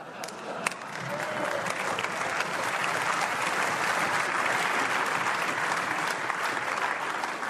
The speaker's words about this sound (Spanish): Es la última vez que aplauden aquí.